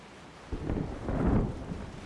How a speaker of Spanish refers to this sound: Vamos donde los demás, ¿no? Hay que quedarse aquí, chaval. Que viene tormenta. Todos los marineros junto a … y … tienen que protegerse de la lluvia pegados a la pared del camarote.